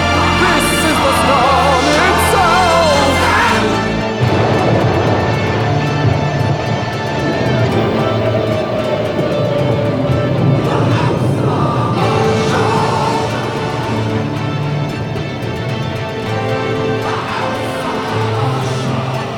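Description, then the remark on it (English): A chill storm gale, growing stronger and shaking the walls of a house, roars steadily and loudly throughout, with layered whistling, howling tones and a pitch that slowly glides downward midway; no voices are heard. “The gale is chill and grows yet stronger. These walls are shaking.”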